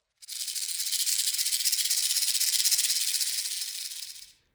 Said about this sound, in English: Caution! There are dangerous snakes nearby.